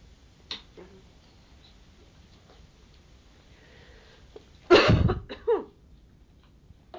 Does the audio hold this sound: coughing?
yes